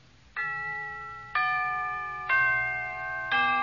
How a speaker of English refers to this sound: Can you tell what part of the hour it is from the tolling of the characteristic phrase of the Westminster chimes that we're now going to listen to?